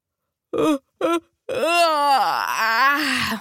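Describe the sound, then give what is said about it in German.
A voice imitates a squirrel's yawn: two short breathy bursts followed by a long, drawn-out wavering moan that dips and rises in pitch, fairly loud with no other sounds. “Gähnt das Eichhörnchen.”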